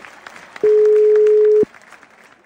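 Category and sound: signal or alarm, phone call ringing tone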